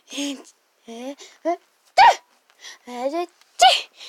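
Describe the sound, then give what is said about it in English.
A voice mimics a sneeze with a sharp, breathy burst amid lively storytelling speech, and a second similar burst follows a moment later; it is the sneeze of Bella, a character in a children's story, after a cloud of fairy dust floats down and makes her nose twitch. “Just then, before a cloud of fairy dust floated down, making Bella's nose twitch, achoo!”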